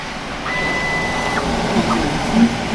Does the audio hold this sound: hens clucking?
no